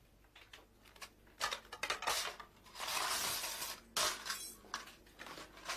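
Metal cookware clattering and tumbling as pots spill over in a kitchen, with a burst of crashing clangs followed by scattered rattles and a few more bangs, loud, no voices.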